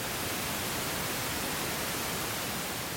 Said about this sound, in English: Similar to white noise, quite a harsh sounding frequency, but pink noise, it's softer on the eardrum, and it's basically like a hum.